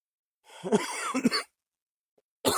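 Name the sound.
coughing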